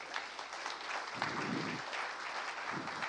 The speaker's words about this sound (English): I told you they'd clap for that.